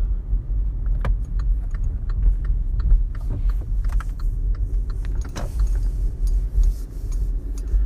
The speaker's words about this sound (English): Okay, you guys, I am in the car, headed to the store.